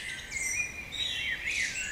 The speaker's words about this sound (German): Das Vogelgezwitscher. Bei uns allerdings wird das Vogelgezwitscher immer leiser, immer ruhiger und vor allem weniger vielfältig.